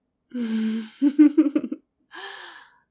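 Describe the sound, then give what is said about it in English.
Whimpering: a drawn-out, tremulous moan, then a quick run of short shaky catches, and finally a breathy, sighing whimper trailing off. No words are spoken. “Oh, whimpering.”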